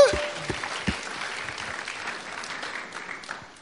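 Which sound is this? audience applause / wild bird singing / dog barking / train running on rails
audience applause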